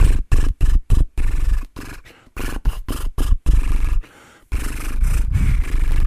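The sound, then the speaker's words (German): A voice does horse-like lip trills as a vocal warm-up exercise: a string of short, buzzing flutters, then longer sustained trills that rise and fall following a melody, with no talking. “Da gibt es zum Beispiel das nette Pferd. Und dieses Pferd können wir auch mit einer Melodie machen.”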